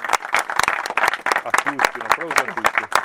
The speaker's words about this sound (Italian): Un applauso, quindi, loro due prima di tutto.